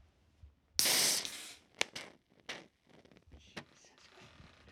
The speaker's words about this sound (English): we've got a couple beers here to celebrate the start of the season, so we're just going to crack these guys, and we're going to cheers before we get going.